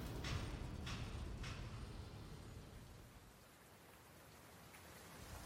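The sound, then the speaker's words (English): Heavy rain pours steadily onto pavement, a dense continuous hiss with a low rumbling undertone and a few sharper splashes early on; no voices. “Outside the abandoned restaurant, the downpour was heavy and came down so rapidly that vision would become obscured.”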